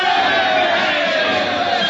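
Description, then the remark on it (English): A loud, sustained roar of many soldiers cheering and shouting together, a dense wall of voices that holds steady without a break for the full two seconds. “Cheers for their courage by their very enemies.”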